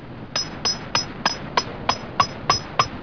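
A climber hammers a metal piton into rock with nine sharp, evenly spaced strikes, each leaving a short metallic ring that grows clearer as the blows continue. Fairly loud, with no voices.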